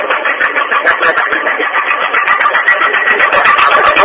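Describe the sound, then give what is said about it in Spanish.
A jackhammer breaks up pavement at the intersection of Avenida 3 de Febrero and Calcura during urban renewal works, in a loud, rapid, steady rattle of hammering blows, with a harsh mechanical roar running underneath and no voices. “Aquí pasaba la conferencia de prensa aquí en intersección de avenida 3 de Febrero y Calcura, justo cuando comienza a trabajar el martillo para romper el pavimento.”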